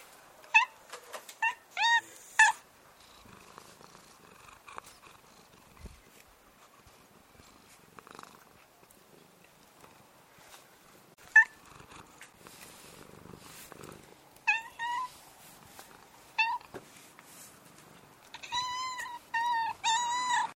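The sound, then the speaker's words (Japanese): A black cat named Hana Pocchi purrs steadily, broken by bursts of short, chirping trills and little meows that come in clusters, with a louder flurry near the end. No one speaks. “続きまして来賓を代表いたしまして黒猫の花ぽっちちゃんよりお祝いの言葉を頂戴いたしたいと思います。”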